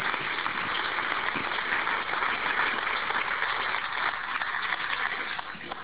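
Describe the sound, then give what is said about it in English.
An audience claps steadily for the expert panel after they answered questions, a dense crackling wash of many hands at an even volume that eases slightly near the end, with no voices. “Guys, can you give the expert panel a round of applause for answering your questions, please?”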